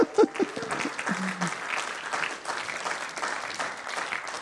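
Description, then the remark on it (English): A crowd breaks into steady, dense applause lasting several seconds, cheering the announcement of the new name Hope Point, with a few cheers and whoops rising over the clapping at the start. “Give me a cheer.”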